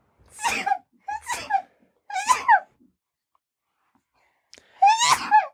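Four sharp, squeaky, high-pitched sneezes, close and fairly loud: three come in quick succession, then a short pause before a final, slightly stronger one.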